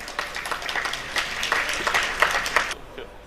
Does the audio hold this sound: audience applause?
yes